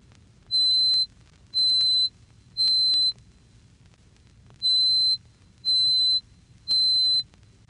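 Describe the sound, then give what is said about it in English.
A piercing, high-pitched pure tone at 4,186 hertz, the note C8, the highest note on the piano, sounds in six even half-second bursts, two groups of three separated by a short pause, over a faint low hum. “Doubling this twice more to 4,186 cycles per second, we reach C sub 8, which forms the highest note on the piano.”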